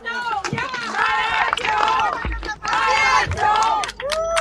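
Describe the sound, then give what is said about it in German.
A crowd of protesters shouting and chanting loudly against Mecklenburg-Vorpommern environment minister Till Backhaus over a whale named Hope, many voices overlapping in rising, sustained yells that swell and surge almost continuously, with brief dips between bursts. “Die Demonstranten machen ganz schön Druck.”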